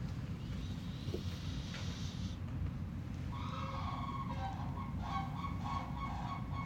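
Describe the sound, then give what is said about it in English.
Turkeys gobble in a cluster of warbling, repeated calls that start partway through, heard over a steady low outdoor rumble with no one speaking. “Even the turkeys are crying out.”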